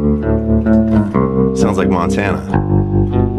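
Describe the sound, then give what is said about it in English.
A bass guitar played with a pick plays sustained notes with a wobbling tremolo and a splashy spring reverb, steady, while a man talks over the top. “Or, I mean, you know, something I love to do is turn on a bit of spring reverb and tremolo.”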